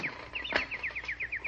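A bird outside an open window chirps in a quick, steady series of short, bright descending notes, about nine in a row, moderately loud with a faint background hiss and one brief knock partway through.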